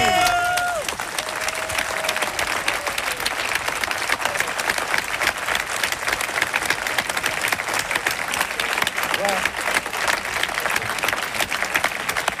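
A group of students who shared the experience applauds steadily for about twelve seconds, a dense, even patter of many hands clapping, with a brief voice or whistle near the start.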